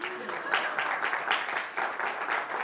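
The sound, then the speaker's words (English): A crowd applauds a sprouting lima bean seed being shown, many hands clapping at once in a dense, crackling wash that holds at a fairly even loudness throughout. “Are you guys applauding the seed?”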